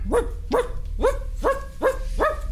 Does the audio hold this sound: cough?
no